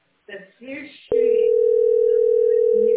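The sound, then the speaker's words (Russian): A short stretch of muffled voice, then a click and a loud, steady telephone dial tone that holds one low, unbroken pitch without pausing until the end, heard while trying for 17 minutes to phone in meter readings. “Смотри, уже 17 минут дожду позвонить.”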